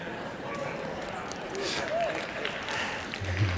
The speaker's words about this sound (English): Wow, I didn't know I'd get a hand clap on that one.